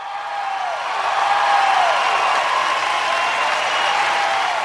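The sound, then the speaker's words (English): A steady applause sound cue played for a platform's moderators, a dense wash of clapping that holds at the same loudness for several seconds, with a few faint falling whistle-like tones mixed in. No one speaks. “Paul, can we get an applause cue for our mods?”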